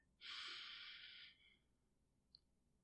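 One long, deep breath, a steady airy rush lasting about a second before trailing off, followed by a tiny faint click. No one speaks.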